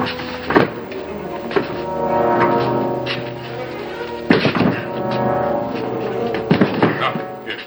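A shoulder slams against a stuck wine cellar door that won't budge, again and again, about half a dozen heavy, dull thunks at uneven intervals over a steady humming, tonal bed of sound.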